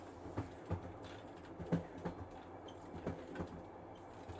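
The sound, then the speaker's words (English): A long train full of passengers rolls steadily along the tracks, its low rumble broken by irregular clacks and knocks from the wheels, heard from inside a carriage at a moderate, even level with no talking. “It's just you and me on this long train full of strangers.”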